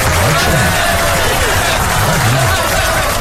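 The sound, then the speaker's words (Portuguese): A steady wash of dense clapping for table tennis player Hugo Calderano's bronze medal at the World Cup fills the whole few seconds, loud and unbroken, with a murmur of voices mixed underneath. “Mas palmas aqui”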